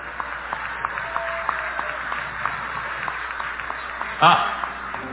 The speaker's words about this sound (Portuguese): Por favor, levantar de pé, uma salva de palmas para eles também.